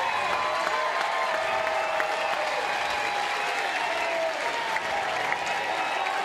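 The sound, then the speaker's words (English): The entire crowd at the Rhodes House softball game rises to its feet, cheering and applauding steadily as the Crimson Tide batter reaches a 3-0 count with the bases loaded, a dense wash of clapping and voices holding at a loud, even level for several seconds without letting up. “Entire crowd here at the Rhodes House to their feet.”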